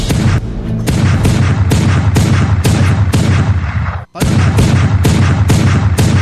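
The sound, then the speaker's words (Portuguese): A loud burst of rapid gunshots fires in a steady rhythm, about two per second, with a brief pause partway through before the shooting resumes. Each shot carries a deep booming thump. “Homem assassinado com quase o quê? 20 tiros!”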